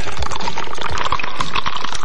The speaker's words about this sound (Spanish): Oh. Te dije, cuidado con la piscina porque te vas a caer al agua.